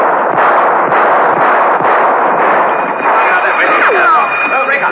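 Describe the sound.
Several sharp warning gunshots, fired by a man fleeing at the end of a passageway in a monastery, crack through a dense, continuous roar of noise. They are spaced unevenly over a few seconds, with shouting voices and a thin high whine rising near the end.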